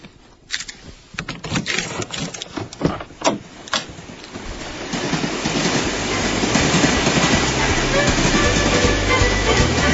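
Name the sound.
train rolling on rails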